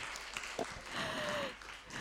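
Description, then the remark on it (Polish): A crowd claps steadily for a couple of seconds in a soft, dense patter, with a brief thin whistling tone gliding through the middle. “Dziękuję wam bardzo, brawa dla nich.”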